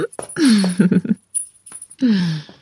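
Keys jangle and clink in two bright metallic bursts, the first longer and choppy, the second after a short pause, with a low, falling voiced tone underneath each.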